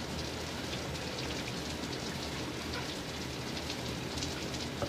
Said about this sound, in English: Alright. That's enough running water for me.